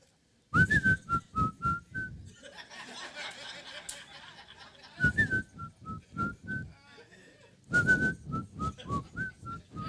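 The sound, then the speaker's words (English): Someone whistles a jaunty, bouncing tune in clear phrases, pauses while a murmur of noise and light laughter fills the gap, then picks the melody up again. “He riding, I can hear him whistling.”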